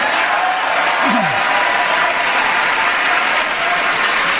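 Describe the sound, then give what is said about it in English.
A large audience applauds steadily throughout, a dense, even wash of many hands clapping at once that holds the same loudness from start to finish without fading. “He didn't clap there, but he nodded his head slightly in agreement there.”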